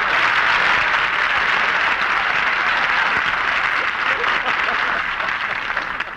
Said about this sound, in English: Barbara, wait for your applause. She got it at my house.